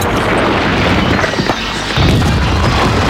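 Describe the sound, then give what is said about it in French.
A man fires a gun to frighten someone who is running away: a loud gunshot booms through a dense, noisy rumble, with a heavy low-end surge about two-thirds of the way in. No one speaks. “Et tire pour lui faire peur.”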